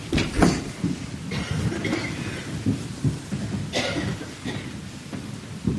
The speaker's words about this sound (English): How many of you like the rain? Do you enjoy when it rains outside?